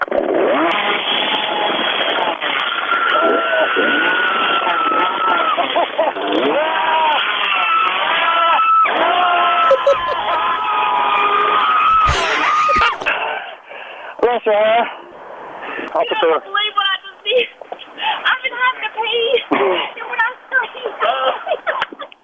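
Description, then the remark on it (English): A woman getting out of her car screams in fright, loud and prolonged, over the harsh roar of a chainsaw being started, then the cries break into shorter, ragged bursts with voices mixed in. “When I started screaming, I just peed all over myself.”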